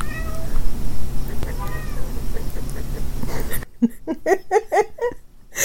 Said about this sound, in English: We heard the call of the wild from over yonder in our little baby kitty that's crazed.